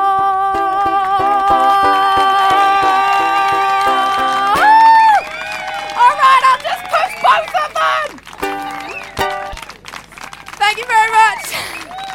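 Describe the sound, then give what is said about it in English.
A sustained sung melody plays for several seconds, then breaks off into a loud burst of audience cheering and excited shouting at the end of the song, with scattered clapping, rising and falling in waves until the end. “If you want to see the whole video of that song and to find out the reason that everyone was cheering so much at the end, you can find it on my YouTube channel.”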